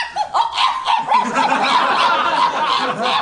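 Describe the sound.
A person imitates a small dog being eaten, yelping in high-pitched terror: a rapid run of high, strained yips and whines packed close together for a few seconds, loud.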